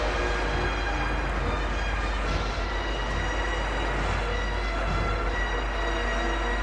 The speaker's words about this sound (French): Le trajet est long, c'est un vieux train à vapeur. Train à vapeur à cause du manque d'énergie, puisqu'on a fermé les centrales électriques.